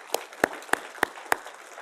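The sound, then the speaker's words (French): An audience claps together in a steady rhythm to applaud God during a morning service, five sharp, evenly spaced claps in under two seconds over a faint background murmur, with no talking. “On peut l'applaudir ce matin, ce Dieu qui nous aime tellement.”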